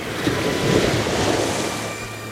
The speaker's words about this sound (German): rannten zum Strand und erklommen die Felsen, an denen hohe Wellen aufschlugen.